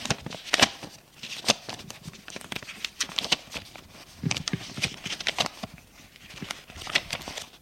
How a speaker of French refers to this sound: il écrit, puis compte ses feuilles.